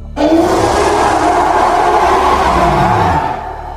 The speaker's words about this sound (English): If you ever hear that scream, run immediately. This is the blood-curdling roar of the Reaper Leviathan. Leviathan-class lifeforms are the largest kind of lifeforms in Subnautica, but not all of them are aggressive.